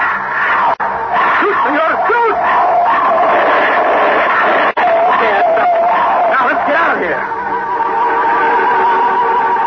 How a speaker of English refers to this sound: We turned ahead to the surface, and just as we did so, I saw something coming up the tunnel toward us. Something that was a pallid white shape in the light of my flashlight. Something running on all fours and howling hungrily